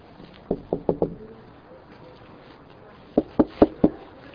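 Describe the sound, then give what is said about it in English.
Two quick sets of four firm knocks on a door by police, separated by a short pause, against a quiet background. “Police. Yeah, can you come to the door, please?”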